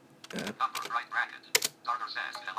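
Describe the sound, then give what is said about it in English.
Scattered keyboard clicks as someone types the short message "hello" into a game's chat window, the taps irregular with one sharper key strike near the end as enter is hit, mixed with a quiet voice in the background. “And we're just going to type a message, hello. And this is the sort of thing that will happen when you hit enter.”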